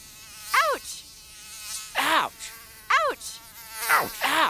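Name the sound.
mosquito buzzing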